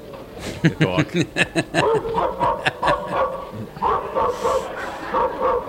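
A dog barks in a quick run of sharp yips near the start, then shifts into high, drawn-out whimpering and whining that carries on to the end, fairly loud.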